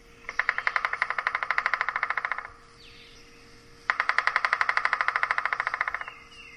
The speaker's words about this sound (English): To declare their territory, male pileated woodpeckers make a drumming sound by striking their bill on a hard surface, such as a tree or utility pole, if that happens to be nearby.